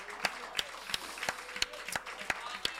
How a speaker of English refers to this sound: Let's clap our hands to Him and give Him a praise.